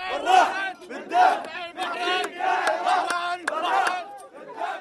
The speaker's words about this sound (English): At a recent protest, Iraqis were mostly calling for better electricity and water, as they have been every Friday for months.